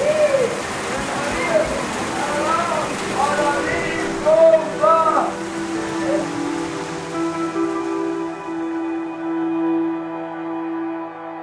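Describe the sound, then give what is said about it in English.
Heavy rain pours down in a steady hiss on leaving a U.S. border checkpoint, while birds chirp and coo through it, then the downpour fades away beneath sustained musical tones. “On my way out, it starts raining. And then it starts pouring.”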